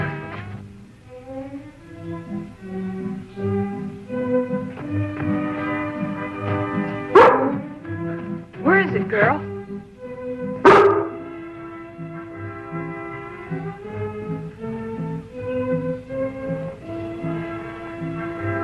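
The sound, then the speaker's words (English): A female bee-hunting dog barks a few times in short, sharp bursts, clustered midway through, over steady background music, with a person briefly speaking. “Best bee dog in the whole county.”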